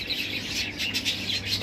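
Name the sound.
pet birds chirping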